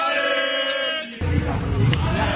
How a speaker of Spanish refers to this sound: Había gritos de Atleti, señalaban a Torres, miraban a Oblak, aplaudían a Antoine Griezmann, jaleaban a Godín.